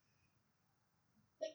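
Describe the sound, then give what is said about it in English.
A single sudden sneeze bursts out after a stretch of quiet hum, short and sharp. “Bless you.”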